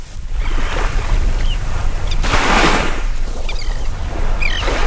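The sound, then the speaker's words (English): Waves wash ashore on St. Pete Beach at sunrise, around 6:30 in the morning, in a steady hissing roar that swells to a louder surge midway, with low wind rumble underneath and a few faint, high bird chirps near the end. No one speaks. “The sun is rising over St. Pete Beach,”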